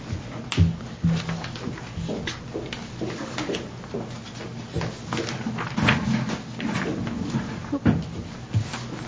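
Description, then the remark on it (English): A chair rolls and scrapes as it slides away during a meeting, with irregular clattering knocks and bumps spread over several seconds, no clear speech. “My chair got away from me for a second.”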